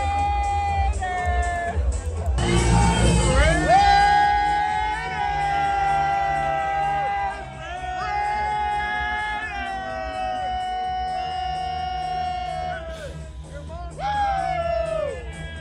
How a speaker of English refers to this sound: So they're all yelling Raiders at Patrick Mahomes as him and Brittany leave the restaurant